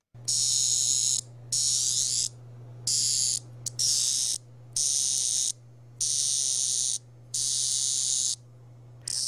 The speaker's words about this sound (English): Let's listen to cicadas, and then we're going to listen to some crickets. Cicadas first.